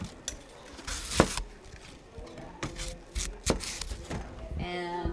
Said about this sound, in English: It's a hand crank gadget that spins an apple on a central spike while a blade follows the surface of the apple, peeling the skin in one long strip.